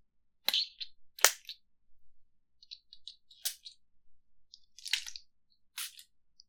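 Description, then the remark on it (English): A perfume bottle spritzes perfume onto someone in about five short, sharp hissing bursts at uneven intervals, with faint clicks and taps between them and no one speaking. “So I'm just gonna spray you with my perfume.”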